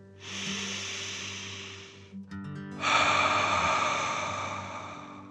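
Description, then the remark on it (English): A relaxing dragon breath: a long, deep breath drawn in through the nose, filling the belly, a brief pause, then a forceful, breathy exhale out through the mouth, with no talking. “Breathe in through your nose, filling up your belly, and then out through your mouth, imagining you're breathing fire.”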